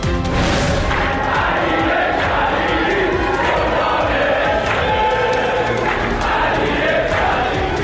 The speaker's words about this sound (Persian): حمایت تماشاگران از جادوگر فوتبال ایران علی کریمی در ورزشگاه آزادی در جریان بازی پرسپولیس و فولاد تشویق شد.